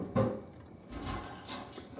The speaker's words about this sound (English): Walking down the hallway of the third floor, you hear the servant downstairs answering the door.